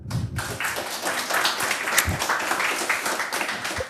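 An audience applauds steadily, a dense crackle of many overlapping hand claps holding a fairly even loudness from start to finish.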